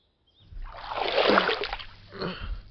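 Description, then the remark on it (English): Heavy water splashing and sloshing, building into a long churning surge and then a second, smaller swell, as a person is dragged up and out of the water. “He took off his coat, wrapping it around her shoulders and dragging her up and out of the water.”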